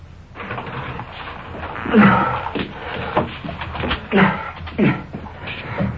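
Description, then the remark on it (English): A door creaks open with drawn-out, groaning squeaks as a suspect comes through it, with some shuffling and rustling movement, moderately loud, with no one talking. “Coming through the door, the suspect.”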